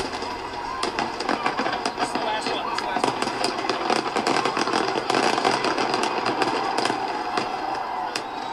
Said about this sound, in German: Alle Jahre wieder krachen in den USA am 4. Juli die Feuerwerke.